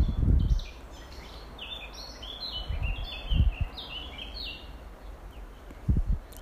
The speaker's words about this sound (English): And as you close your eyes, maybe you experience that you hear more the birds singing.